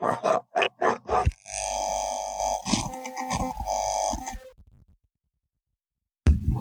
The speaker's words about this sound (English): Sorry, my dogs again. Mascots, brother. Mascots. It's all good. I'm telling you, it's mascots because they can't stand me talking about Cheney. Like, they were quiet until I started talking about this. Even dogs don't like her.